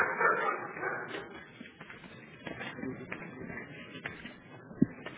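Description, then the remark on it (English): A dog barks and yips a few times over a steady background murmur, with one sharper, louder bark near the end. “They keep also dog.”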